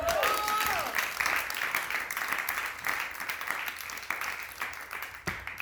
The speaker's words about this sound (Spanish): Se me fue el pedo, hagan un aplauso, por favor.